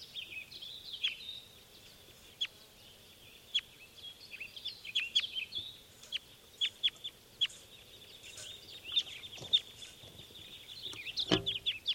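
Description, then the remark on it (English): Wild birds taking off: a steady high chatter of bird calls runs throughout, broken by scattered sharp clicks and ending in a louder, brief burst of rustling wing flaps. “And those were the wild birds taking off.”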